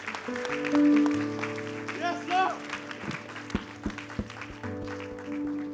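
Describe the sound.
An audience applauds in a steady wash of clapping over sustained keyboard chords, while voices call out briefly midway and a few sharper claps stand out near the end.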